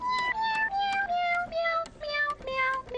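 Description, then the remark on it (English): A meowing toy piano at a cat lounge plays a quick run of about eight bright, electronic meow notes stepping downward in pitch, fairly loud, with no one talking. “That is a meowing piano.”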